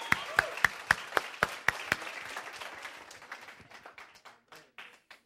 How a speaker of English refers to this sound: Si le vas a dar un aplauso al Señor, dáselo fuerte. Applause, give him a strong applause.